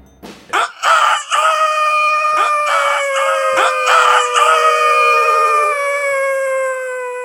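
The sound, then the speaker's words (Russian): A rooster crows loudly, one long drawn-out call holding for several seconds before trailing off, with a few sharp knocks at the start and during the crow. “Хватил солдат его за бороду и до тех пор угощал тесаком, пока петухи не запели.”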